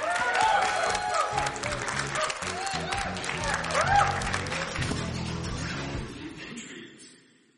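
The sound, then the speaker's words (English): An audience claps steadily for several seconds for Deion Lewis after he made it through Totally Challenged, a dense, loud wash of applause mixed with scattered cheers and voices, before thinning out and fading away at the end. “All right, a big round of applause.”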